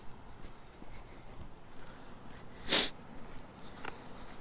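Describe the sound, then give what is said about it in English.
A dog gives one sharp sniff that stands out against a quiet background, followed about a second later by a fainter second sniff. No one speaks. “No sniff.”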